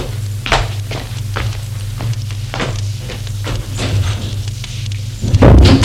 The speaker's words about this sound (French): En claquant la porte